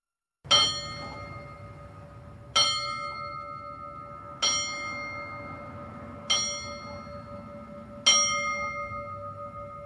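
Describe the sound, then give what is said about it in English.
A single bell tolls five times at slow, even intervals of about two seconds, each clear metallic strike ringing on and overlapping the next, as a memorial tribute to the New York firefighters who died on 9/11. No one speaks. “There's no more fitting tribute to the firefighters from New York that lost their lives on 9/11 than the ringing of the bells.”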